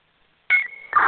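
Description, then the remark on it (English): After a moment of silence, a short burst of electronic telephone dialing tones starts abruptly: a steady high beep followed by another sharp tone, fairly loud, with no voices. “We're gonna call them by phone now.”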